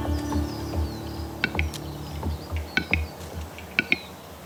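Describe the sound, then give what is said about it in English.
A male capercaillie's lek display in a Scottish pine forest, calling to summon females to the lek: sharp, dry pops and clicks arriving in pairs and short bursts, crisp, over a faint low hum and quiet forest ambience. “The male bird's bizarre popping call is summoning the females to the lek.”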